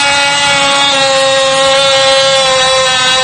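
A power reaming tool whines steadily against the cylinder of an EVA 3KS high-security lock with anti-drill pins, a loud, continuous high-pitched motor drone with layered harmonic tones and a rough, gritty rumble underneath, unbroken for the whole stretch.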